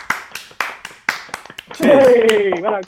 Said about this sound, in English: Round of applause, guys.